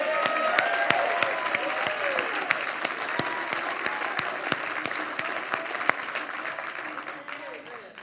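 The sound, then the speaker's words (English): An audience gives a hand clap for Jesus Christ, many hands clapping in a dense, steady wash with sharper individual claps standing out, fading slightly at the end, with some voices murmuring underneath. “And if you're saved today, and you know Jesus Christ is your Lord and Savior, give him a hand clap.”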